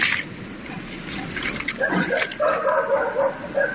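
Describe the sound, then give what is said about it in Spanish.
Dogs bark at night in Puerto, a village near Oviedo, Spain, as they sense bears, in a short, uneven flurry of sharp, yelping barks that rise out of a hissy background, moderately loud, with a few overlapping calls toward the end. “Aparecen por las noches y los perros los perciben.”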